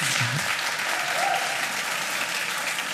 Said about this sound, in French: Respect, applaudissements.